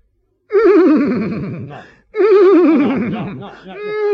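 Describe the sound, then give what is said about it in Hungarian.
Loud, buzzy trumpet-like blasts played on a comb, imitating a three-blast trumpet signal for opening a gate: two long wavering notes in a row followed by the start of a third, with nobody talking. “Most mi csak azt szeretném tudni, honnan kerítsünk három trombita szót.”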